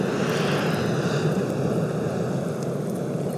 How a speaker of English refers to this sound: We heard the feeding call of the humpback whales and then the sound of this congregation of whales erupting through the surface of the water.